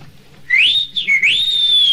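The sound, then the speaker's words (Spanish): A person whistles a clear, sliding tone that rises, dips briefly, then rises again and holds steady, loud with no talking. “Pues un chiflido, ¿no oíste?”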